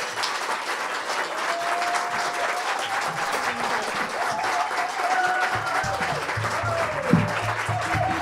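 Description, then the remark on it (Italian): A crowd applauds the musicians who were on stage, steadily for several seconds, a dense wash of many hands clapping at an even loudness, with faint tonal murmurs and a few low thumps underneath toward the end. “Io chiederei innanzitutto ancora un grande applauso a tutti i musicisti che erano sul palco.”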